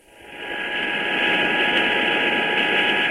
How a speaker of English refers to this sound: The Sikorsky Sky Crane looks like a giant praying mantis. The cargo helicopter can hold up to 25,000 pounds of equipment, but on this run, only a few hundred feet of boom, an outboard motor, and some rakes are being taken